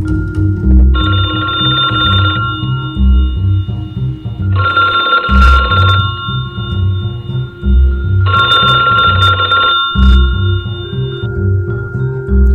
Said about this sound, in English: phone is ringing somewhere in my head.